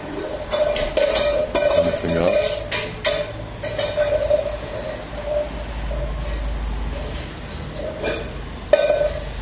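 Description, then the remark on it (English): A dog licks at a metal food bowl, with wet, irregular lapping strokes that make the bowl ring faintly, over a low background rumble. “Licking his bowl.”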